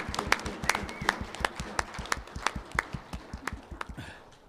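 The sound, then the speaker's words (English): A group claps steadily as a clap offering in appreciation of their pastor during Pastor Appreciation Month, with sharp individual claps standing out over a dense patter of applause that gradually thins and fades after a few seconds. “So I thought we could start today with a nice clap offering in appreciation of our pastor.”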